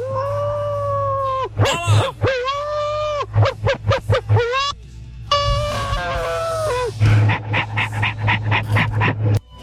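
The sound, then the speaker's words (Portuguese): A person imitates a dog, letting out sustained wavering howls followed by quick yelping barks and panting bursts, loud over a low steady hum. “Ué, tô uivando aqui, ó.”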